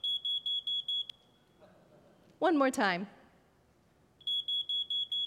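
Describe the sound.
A smoke detector chirps at 2 in the morning on a cold winter night, heard from bed, in two quick bursts of about five sharp, high-pitched electronic beeps each, loud, with a brief spoken phrase in the quiet gap between them.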